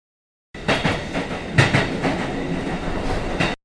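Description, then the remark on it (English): A passenger train rolls along its rails with a steady rumble, punctuated by irregular clacks of wheels over track joints. It is continuous and fairly loud, with no voices. “The train will arrive at the next station soon.”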